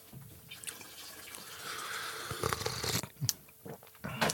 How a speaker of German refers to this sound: Ich finde, dieses kochende Wasser gehört dazu, aber zur Soundkulisse.